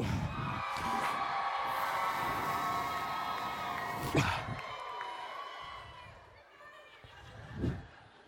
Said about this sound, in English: You guys ready? When I say go, start cheering. One, two, three, go!